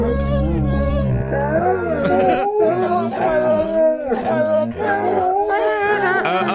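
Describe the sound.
Dogs howling and yowling in pitch to the carol We Wish You a Merry Christmas, a loud, continuous run of wavering howls rising and falling with the melody, several voices layered together.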